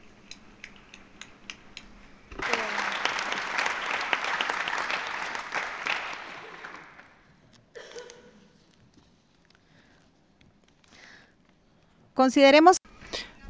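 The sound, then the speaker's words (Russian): A burst of dense, steady clapping from delegates at a UN conference session as a decision is adopted rises suddenly and holds for about four seconds before fading out. Quiet follows, with a few faint rustles and a short louder sound at the end. “Были аплодисменты.”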